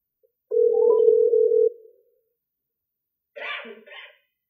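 A call placed from a mobile phone to a phone number connecting: one steady electronic tone sounds clearly for about a second, then silence, then a short burst of a different, brighter sound.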